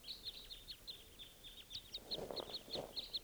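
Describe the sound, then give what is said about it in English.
Calls of two crossbills flying over at 5:30 a.m.: a rapid, irregular series of short, sharp, high-pitched chips repeating throughout, fairly soft, with a brief low rustling swell toward the end. “More crossbills at 5:30 a.m.”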